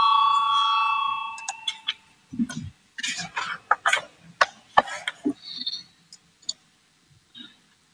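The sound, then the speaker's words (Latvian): A parliament voting bell rings before a vote on a proposal, as a steady, bright electronic tone for about a second and a half, then stops, leaving scattered clicks, knocks and faint shuffling. “Lūdzu, zvanu, balsosim par 204. deputāta Valaiņa priekšlikumu.”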